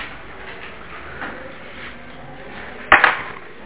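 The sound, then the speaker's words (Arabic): A quiet hum, then one short, sharp swipe near the end, like an eraser dragged quickly across a board as something is wiped off. No one speaks. “فقط أمسح هذا، أرجو المعذرة”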